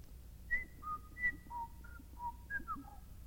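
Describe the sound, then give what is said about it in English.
A person whistles an imitation of meadowlarks singing out in a meadow: a run of about eight bright, clear notes sliding and stepping between high and mid pitches, with short gaps, standing alone over a quiet low hum. “Birds and bees a-humming, meadowlarks singing.”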